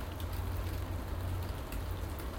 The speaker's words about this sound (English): Definitely raining now, and I haven't got any protection on. But at least it's like yesterday's rain, straight down rain, pleasant stuff.